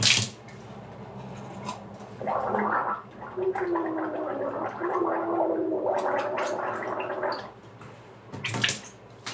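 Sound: gargling water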